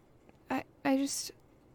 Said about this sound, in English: That was a big yawn. Did I wake you, Sleeping Beauty?